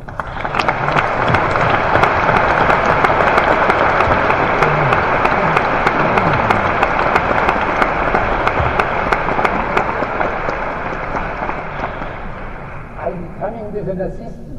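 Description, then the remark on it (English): An audience breaks into sustained applause welcoming art director Peter Knack: a dense, steady wash of many hands clapping that stays loud for over ten seconds before thinning out near the end. “Ladies and gentlemen, a warm applause for Mr. Peter Knack.”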